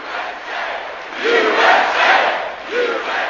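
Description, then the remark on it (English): A large crowd in Mooresville, North Carolina, about 50 miles outside Charlotte, roars and cheers greeting Mitt Romney and running mate Paul Ryan on a bus tour, with rising shouts swelling in waves and a rhythmic chant-like surge, broad and dense, with no speech over it. “Here's how they were greeted in Mooresville, about 50 miles outside Charlotte.”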